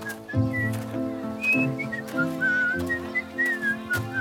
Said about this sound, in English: tied his sandal straps, and whistled happily as he walked towards the weaver's shop.